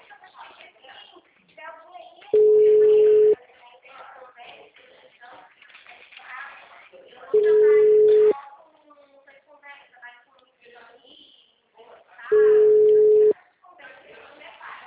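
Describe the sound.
A steady, mid-pitched ringback tone sounds three times, each burst about a second long and spaced roughly five seconds apart. The call is to a woman who does not answer, while people talk underneath.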